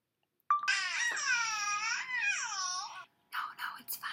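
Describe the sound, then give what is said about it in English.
A baby babbles in one long, high-pitched stretch of wavering, sing-song vocal sounds, then trails off into a few short, breathy, whispery bursts. “I'm not worried about it because it's a baby.”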